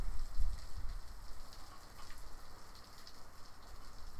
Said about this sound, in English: And it's been raining all weekend. In fact, here, I'm gonna let you hear some of this beautiful rain.